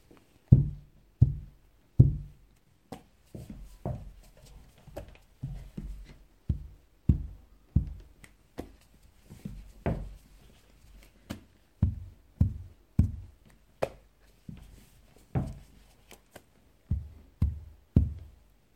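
Heads knocking on a classroom floor as students kowtow one after another to apologize: over two dozen dull, low thuds at an uneven pace of roughly one per second, fairly loud, with no voices.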